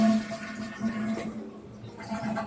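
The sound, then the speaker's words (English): A toilet flushes with a rushing, gurgling surge of water, loud, lasting a couple of seconds with a steady hum beneath it. “You can flush them down.”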